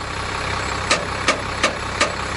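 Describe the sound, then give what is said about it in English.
A K112 bus engine idles with a steady rumble at a bus depot in the Blue Mountains west of Sydney, Australia, while a mechanic works under the bus to get it ready for the day; four sharp metallic clicks land at an even pace over it. No one speaks. “At a depot in the Blue Mountains”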